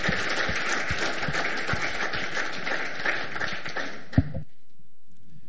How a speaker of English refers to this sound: Thank you very much. I think an applause is deserved. Thank you.